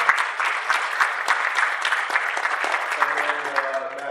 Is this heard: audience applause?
yes